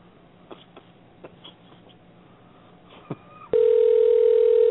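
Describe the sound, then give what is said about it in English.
A steady, loud telephone dial tone starts abruptly after a few seconds of faint clicks and rustling, then holds at a constant pitch until the end. “Bill Bowman answers the phone, you know, it didn't work.”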